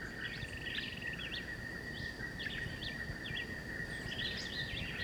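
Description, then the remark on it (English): A black-whiskered vireo (John Chewit) sings in short, repeated chirpy phrases about 30 meters away, over a steady high-pitched insect drone and low outdoor rumble. No one speaks. “There's some more parakeets overhead. And John Chewitt now.”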